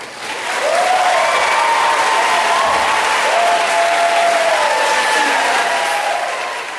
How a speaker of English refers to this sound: The yelling and clapping continued for about 15 minutes, forcing the Senate to stop attempts to have a final vote on the bill.